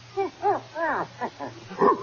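dog growling

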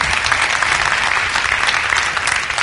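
audience applauding

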